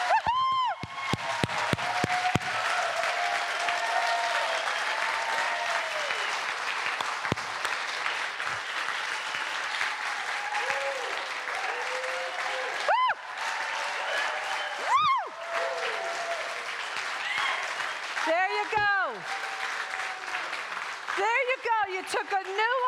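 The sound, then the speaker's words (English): A crowd breaks into sustained, dense applause that fills the whole stretch at a steady loudness, with scattered whoops and cheers rising above the clapping near the end. “Right now, I want you to open your eyes and I want you to go into full applause for your own abundance.”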